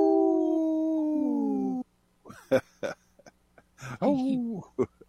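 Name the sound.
dog howling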